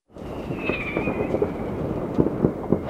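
Fireworks in Berlin, shot from rooftops, out of windows and on the streets, crackle over a dense, steady rumble, with a high whistling tone early on and several sharp bangs toward the end.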